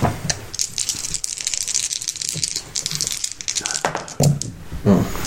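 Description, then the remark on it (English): A handful of dice is shaken and rolled for a dexterity saving throw, rattling steadily in a dense stream of bright, quick clicks and clatters lasting several seconds, with faint murmuring voices underneath near the end. “Oh, I don't like the amount of dice in your hand.”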